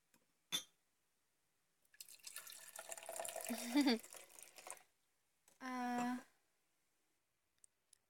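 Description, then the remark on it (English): A click, then wine is poured into a glass for a few seconds, the gurgle rising in pitch as it fills, followed by a short, steady voiced hum. “Let me pour you a glass and just chill out there.”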